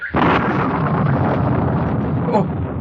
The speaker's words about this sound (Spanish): ¿Oyes eso? ¿Oyes? ¿Qué es? ¡Son truenos! ¡Truenos!